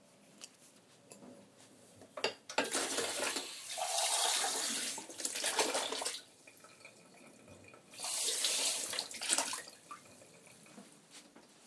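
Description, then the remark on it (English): Running tap water gushes in two broad bursts as a half glass, not a pint glass, is rinsed, with a bright hiss that shifts as the glass moves under the stream, plus a few small clinks and gaps between. “But yeah, gave the glass a rinse.”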